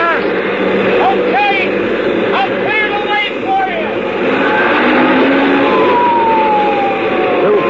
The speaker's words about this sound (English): Sirens screaming, red lights flashing, and I breathed once more.